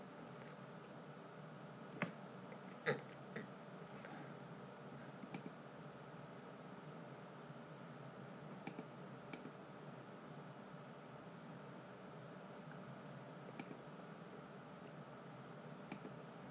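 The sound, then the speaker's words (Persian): Scattered, quiet clicks on a computer keyboard tap out irregularly, a few isolated keystrokes spread across a steady background hiss, with no one speaking. “خب بذارید ببینم اینجا من میتونم تایپ کنم.”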